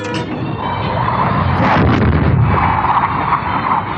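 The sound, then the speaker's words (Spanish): Five fighter jets flying at tremendous speed in close formation break the sound barrier: a loud, sustained roar tearing through the sky, with deep rumbling and a thunderous booming texture that stays steady for several seconds, with no voices. “5 poderosos aviones de combate surcan el cielo a velocidad vertiginosa. Han roto la barrera del sonido.”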